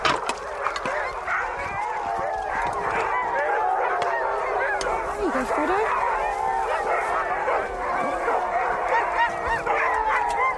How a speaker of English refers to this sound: As the dinner is made, the teams of dogs start calling to each other.